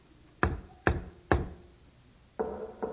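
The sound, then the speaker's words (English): Three loud, evenly spaced knocks on a house door, given as a secret knock, each with a short resonant decay, followed after a pause by a faint, muffled tonal sound. “I shall now give the secret knock that only he and I know.”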